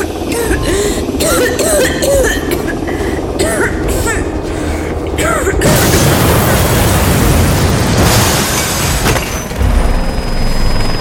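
Muffled voices give way to a sudden, loud explosion inside a cell that shakes the whole wall and bursts into a long roaring rumble, with a second surge of crashing, crumbling stone and granite debris falling inward a few seconds later.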